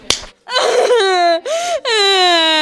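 A single sharp slap rings out, then a child bursts into loud, close wailing, crying in long drawn-out sobs broken by brief gasping pauses.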